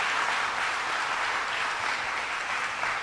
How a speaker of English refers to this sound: First, your mayor, Byron Brown. Let's give him a big round of applause for the great job he's doing.